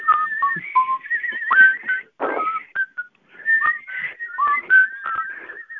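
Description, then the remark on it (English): Several people whistle together at once, overlapping tones sliding and wavering in a loose, playful chorus with short breaks and a few breathy bursts, fairly loud, no talking. “We're all going to whistle, and then we'll introduce you.”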